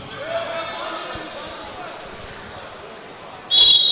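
A referee's whistle at a wrestling match, during a tiebreaker period, blasts suddenly near the end, a loud, steady, piercing high tone held for about half a second, cutting over a background of murmuring crowd noise.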